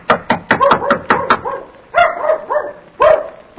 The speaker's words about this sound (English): I didn't mean to knock so loud. Oh, that sounds like Mickey barking. Oh, no, but it couldn't be.